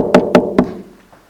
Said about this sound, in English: So the King ran off hurriedly to get assistance, and he found a little cottage deep in the forest, and he came to the door and he knocked.